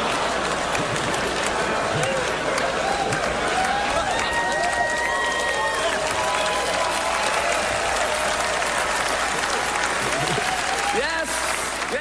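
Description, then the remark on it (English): Steady, loud audience applause fills the whole twelve seconds, a dense wash of clapping with a few voices and faint whoops rising through it before it swells again near the end. “It was like a laugh, a groan back to applause.”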